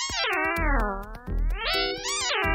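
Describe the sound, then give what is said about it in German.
A sonified rendering of fast swimming strokes, from research by scientists in Bielefeld and Pisa, Italy: a loud, buzzy synthetic tone glides downward, then sweeps back up, with sharp clicks ticking through it in an uneven rhythm. “Wie es sich anhört, wenn man richtig schnell schwimmt, das untersuchen Forscher aus Bielefeld und Pisa in Italien.”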